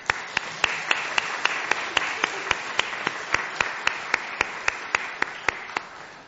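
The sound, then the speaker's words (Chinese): An audience claps in steady unison to honour the elders among them, sharp crisp claps landing about four times a second over a bed of scattered clapping, with no talking throughout. “在这一刻，愿意我们用一同的用掌声向我们当中的长辈来到去致敬。”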